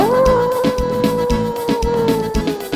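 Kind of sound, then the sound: animal, dog howling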